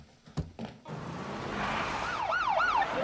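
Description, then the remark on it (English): Police car sirens wail up and down in quick sweeps, rising loud over a rushing, rumbling background after a couple of brief thuds at the start, as a fleet of police cars surrounds a house. “Now the neighborhood children gather around as a fleet of police cars surrounds the house.”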